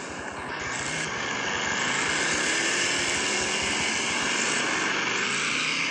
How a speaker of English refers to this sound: Cars are rolling. And Brad is leading the cars as we get ready for 90 laps, 225 miles of racing.